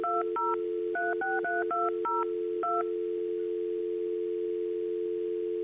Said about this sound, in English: And then we would dial, and we'd dial these numbers.